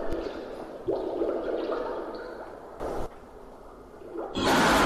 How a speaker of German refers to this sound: Und ab und zu werden Mädchen mit blauen Lichtstrahlen beschienen, wenn sie mit dem Klang des Wasserblubberns nach oben gehen.